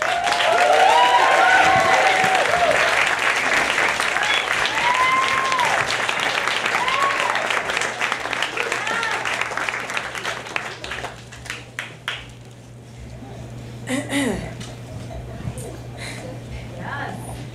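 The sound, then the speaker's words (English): Sustained audience applause with some cheering and whoops at a lecture event held in a bar, welcoming a speaker, strong at first, then thinning out into scattered claps and fading over about seventeen seconds. “Very warm round of applause, please,”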